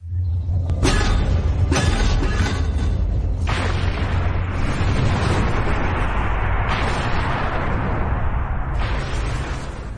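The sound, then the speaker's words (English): A storm sound effect played by pressing the wrong button: a loud, continuous storm roar with deep rumbling underneath and several sharp, thunder-like cracks in the first few seconds, then a steady heavy wash of noise. No one speaks. “I was just thinking of the storm so much, I hit the wrong button.”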